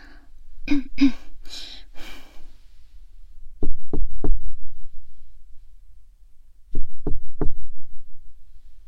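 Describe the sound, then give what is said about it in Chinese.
A couple of brief vocal noises, then two bursts of three firm knocks on a door, separated by a short pause. Each knock is sharp and evenly spaced. “喂，开门啦，表哥。”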